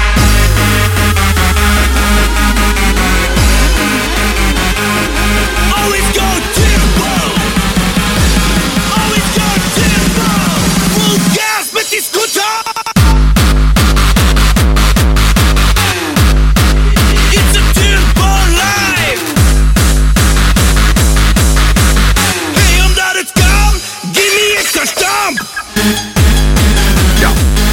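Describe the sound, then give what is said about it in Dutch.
A loud, pounding stamp dance track with heavy booming bass and dense driving beats, briefly dropping out twice into short breaks before slamming back in at full force. “Alsof er nog niet genoeg stamp in zat.”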